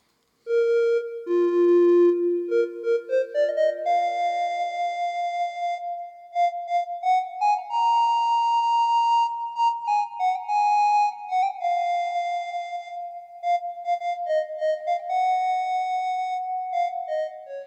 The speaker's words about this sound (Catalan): A l'estil d'una ocarina. No sé si sabeu què és una ocarina, que és un instrument de fang amb el qual es bufa i té uns foradets. Doncs ara escoltarem aquest mòbil ocarina, a veure què us sembla.